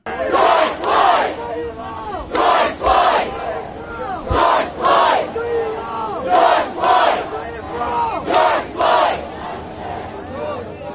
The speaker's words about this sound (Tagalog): Nagkaroon din ng mapayapang protesta kasama ang isang marcha na kung saan ang mga nagpoprotesta ay sumisigaw ng pangalan ng namatay.